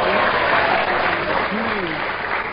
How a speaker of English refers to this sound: Goose, you got a round of applause on Goose.